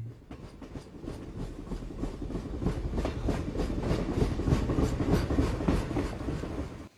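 A train rumbles steadily along the rails, its wheels clattering in a rapid repeating rhythm that grows slightly louder, close and continuous throughout with no voices.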